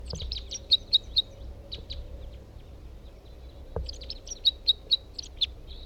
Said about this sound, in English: That's a different bird.